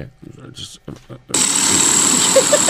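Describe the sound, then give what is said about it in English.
Brief talking gives way to a loud, harsh, continuous rattling snore that sounds strikingly like a pneumatic drill, droning steadily for over a second until the end. “It's good because it can also like double as the sound of a pneumatic drill as well.”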